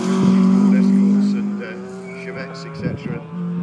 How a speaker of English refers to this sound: Plenty of cars coming past now. This is a Escort.